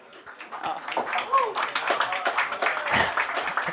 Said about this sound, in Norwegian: Og det, nei, gi en liten applaus til den galingen her.